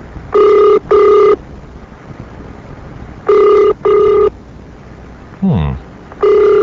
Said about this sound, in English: Yes, operator, I'd like to place a long-distance call to London, England. And I'd like to make it person-to-person to Paul McCartney. Okay, they're ringing London, England now. This is to McCartney Publishers.